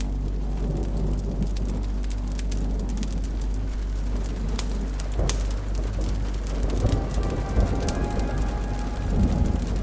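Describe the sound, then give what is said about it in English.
Steady heavy rain drums on a cabin's tin roof, dense crackling patter with scattered sharp drips and a low rumbling undertone, continuous, no voices. “You sit yourself beside a roaring fireplace as the rain pounds a cabin's tin roof.”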